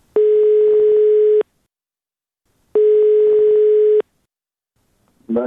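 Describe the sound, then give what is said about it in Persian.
Two long, steady electronic ringback tones sound about 1.3 seconds each with silence between them, loud like over a phone line, before a voice begins at the end, as Radio Azadi calls a person searching for a missing relative. “بنابراین ما هم کوشش کردیم که از طرف خود به کسانی که در جستجوی گم شده خود هستند تلفن کنیم و با ایشان صحبت بکنیم و صحبتشان را ثبت و نشر نماییم.”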